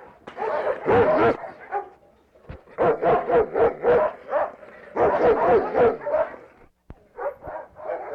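A dog named Nero barks loudly in a long run of quick, rhythmic barks, broken by brief pauses, with a few higher yipping sounds mixed in.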